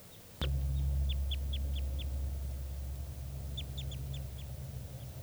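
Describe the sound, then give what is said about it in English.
Two rapid runs of high, sharp type 2 crossbill call notes from a wild bird, about five in each run, over a loud, steady low rumble that starts abruptly just before the first run. “I'm not sure, but I hear type 2 calling, and I'm not sure if it's 387 or one of the wild birds.”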